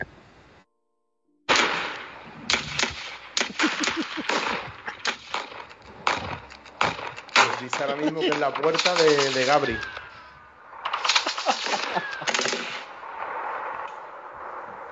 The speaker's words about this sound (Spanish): Parece ser que no hay solo un individuo. Se escucha una semiautomática. Un Kalashnikov. Eso es una Glock reglamentaria de la policía.